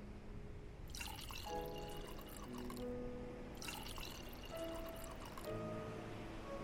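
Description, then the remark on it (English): Veen water from Finland is poured from a pitcher into a glass in two steady pours, each splashing and rising in pitch as the glass fills. The sound is clear, with no talking. “And if you're thirsty, there's a pitcher of Veen water right there.”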